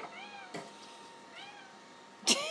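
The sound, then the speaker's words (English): A cat named Simba meows twice, two drawn-out, mid-pitched, tonal calls with a pause between them. Short sharp knocks mark the gap and the end, and nobody speaks. “It's got Simba's about, as you can hear.”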